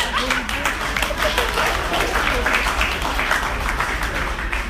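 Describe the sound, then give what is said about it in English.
A crowd applauds steadily after a comedian says his wife is pregnant, dense clapping filling the whole stretch at an even loudness, with some murmuring and a few voices mixed in. “Clap it up.”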